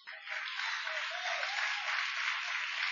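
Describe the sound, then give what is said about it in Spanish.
An audience applauds in a steady, dense wash of clapping that holds at an even level for the whole three seconds, with no voices rising above it. “I'm not looking for hand claps.”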